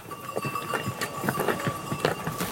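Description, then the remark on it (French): Donkeys' hooves clop along a footpath in a steady, uneven patter of sharp knocks, with a faint steady tone and outdoor ambience underneath. “Soit on a des ânes qui arrivent, voilà, et puis après il y a les gens qui sont là.”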